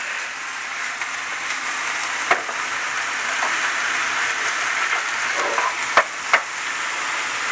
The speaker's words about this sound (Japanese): さらに炒めます。完全に火が通りましたら合わせた調味料に入れ、また炒め、絡めましたらチンジャオロース出来上がりでございます。